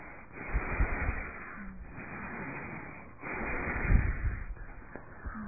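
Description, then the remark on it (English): Slow, deep belly breaths drawn in and pushed out as a belly-breathing demonstration, about four long breath cycles in a steady rhythm, heavy and airy, with no talking. “That is why I always try to remember you, the belly breathing.”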